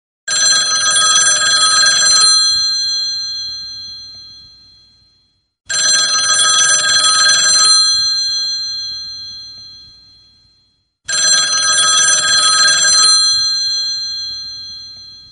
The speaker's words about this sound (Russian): Во время этой тихой беседы вдруг раздался телефонный звонок.